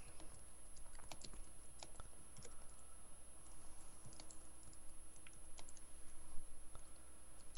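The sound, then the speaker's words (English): Steady, rapid clicking of keys on a computer keyboard as someone tweets, irregular taps continuing throughout, fairly quiet, with a low background hum and no talking. “Typing. Yeah, well, I was tweeting.”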